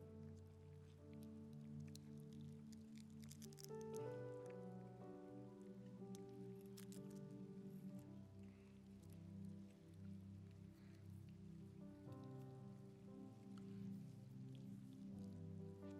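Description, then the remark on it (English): A dense, steady crackle of many small plastic communion packets being peeled open at once by a church audience taking the bread, like light rain, layered over soft sustained keyboard chords, with no talking. “I love that sound. Sounds like rain.”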